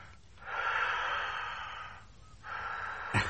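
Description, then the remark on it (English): Heavy, rasping breaths over a phone line: a long drawn inhale or exhale, a pause, then another breath ending in a sharp snorting catch, with no one speaking. “Now, come on, don't give me the heavy breathing.”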